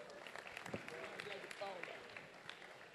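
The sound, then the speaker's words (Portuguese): A crowd applauds steadily, with a dense patter of many hands clapping, while a few voices murmur and call out underneath, welcoming the Minister of Agriculture and Livestock, André de Paula, at an afternoon event with the president present. “Uma salva de palmas.”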